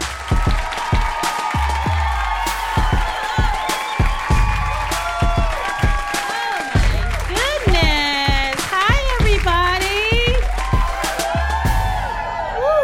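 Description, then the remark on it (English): A live crowd at a Two Dope Queens show at Union Hall claps steadily throughout, with loud whoops and high, sliding cheers rising above the applause midway before the clapping carries on to the end. “Clap it up for yourselves for coming out.”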